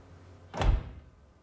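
A glass door shuts once with a solid, muffled thud and a brief rattle that fades quickly, heard alone against a quiet background, shutting behind Charles as he enters a room.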